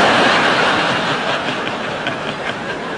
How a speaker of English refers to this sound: Should we just wait till this train's gone past?